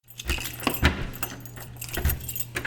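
Keys jingle and a lock clicks as the door of a 1,700 square foot, two-bedroom apartment in the cotton mill, a building originally built in the late 1800s, is unlocked and opened, with a few sharp metallic clacks over a steady low hum and no talking.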